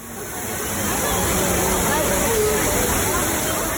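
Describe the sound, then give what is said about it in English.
At 10 p.m. in the piazza of the Fontana di Trevi, a crowd of 300 people or more murmurs in an indistinct babble over the steady, rushing splash of the fountain, the wash of water and voices blending into one continuous, fairly loud roar. “It's 10 p.m. when I enter the piazza in which the Fontana di Trevi is located. There is the most unbelievably large crowd gathered there.”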